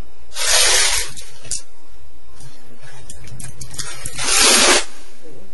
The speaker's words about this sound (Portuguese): Estou escutando barulho até de água. Ah, ela está cortando a internet oscilando.